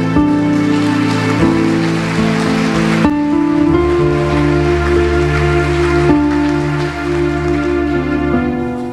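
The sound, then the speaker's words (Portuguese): A church audience applauds for Jesus in a dense, steady wash of clapping that lasts the whole stretch, mixed with sustained keyboard chords that change a few times underneath. “E toda a igreja diz: os que podem, tomem seu assento, dando a Jesus uma linda salva de palmas.”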